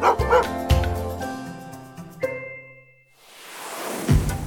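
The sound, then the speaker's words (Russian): A dog named Altai, apparently asking to go for a walk and play ball outside, barks and yips in a quick burst of several sharp, eager woofs with a whiny, whimpering edge, followed by a softer rushing noise toward the end. “Он, по-моему, гулять просится. Хочет с мячиком поиграть на улице.”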